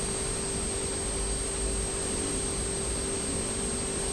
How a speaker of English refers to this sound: But there's a noise outside. Do you think it's an aeroplane? Oh, yes, definitely. Where's the aeroplane? It's on the clouds.